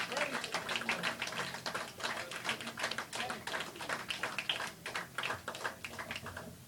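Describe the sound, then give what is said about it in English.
An audience at a church service claps hands together in steady, energetic praise, with many overlapping sharp claps forming a dense, sustained ripple of applause throughout, fairly loud. “I think before we go, we can just give one more big hand clap for praise.”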